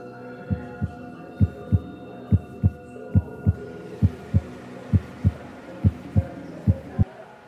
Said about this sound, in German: Es gibt eine Station, wo du verschiedene Gerüche schmecken kannst, eine, wo etwas kannst spüren und eine, wo sogar deinen eigenen Herzschlag hörst.